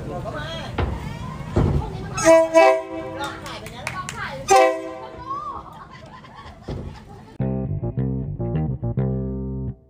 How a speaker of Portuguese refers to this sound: Isso, ele passa 8 vezes por dia. Ou seja, o povo monta a banca e tira a banca. E são assim, dezenas de barracas. 8 vezes por dia. A gente gravou, inclusive, a gente espremidinho. E o apito do trem, estou chegando.